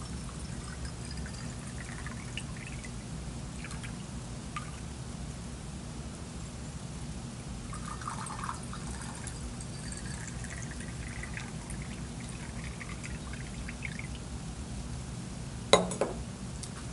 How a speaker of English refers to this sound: So to start out, I'm going to add 100 milliliters of water to each of our beakers.